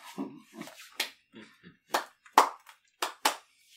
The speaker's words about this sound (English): Are we clapping him out for that? It's a slow clap.